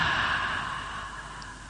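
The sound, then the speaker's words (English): A single long, breathy exhale through an open mouth, steady, with a soft hissing, wave-like rush that slowly fades over under two seconds; a deliberate 'ocean breath' breathing exercise, breathing in and out through the mouth. “inhaling, and it makes an ocean breath if you breathe in and out through the mouth.”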